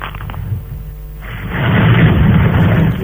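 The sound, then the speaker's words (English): Sea waves batter a building and crash against its top-floor windows: a low, quieter rumble gives way to a sudden roaring surge of water, loud and broad with deep booming undertones, sustained to the end. “It's the waves are actually battering the building and coming up onto your top floor windows.”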